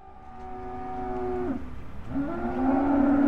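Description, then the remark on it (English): Two long, low cattle moos, one sustained then fading near the midpoint, a second rising and swelling louder at the end, over a steady murmuring background at a cattle auction at Overland Stockyard in Hanford, about 40 minutes south of Fresno. “A cattle auction is set to begin at Overland Stockyard in Hanford, about 40 minutes south of Fresno.”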